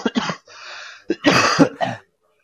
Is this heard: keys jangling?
no